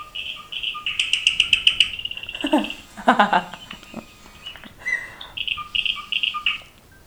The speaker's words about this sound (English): Birds in the studio.